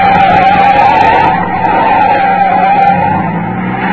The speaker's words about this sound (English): He called my name as his car came alongside, then began forcing me off the road. There was only one way out. I whipped my vehicle away and skidded onto a bridge.